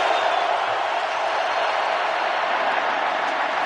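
A dense, steady roar of a large stadium crowd at a football game fills the whole stretch, loud and washed-out with a repeating slapback echo and no distinct individual voices standing out.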